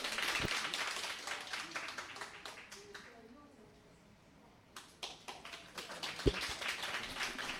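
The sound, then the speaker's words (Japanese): An audience breaks into steady applause to welcome a solo flute performance, dense overlapping claps, fading briefly partway through before swelling back up with renewed clapping to the end. “それではどうぞ拍手をお送りください。”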